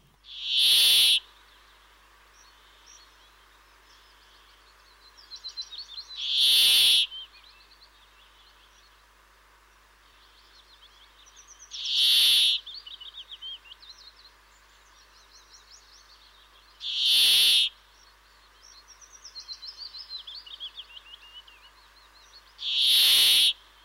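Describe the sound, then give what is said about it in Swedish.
A brambling gives five loud, harsh, buzzy calls at steady intervals of about five seconds, with softer twittering bird calls in between and no talking. “Ja, vi kanske ska lyssna också på bergfinken som har en likartat läte ungefär som bofinken.”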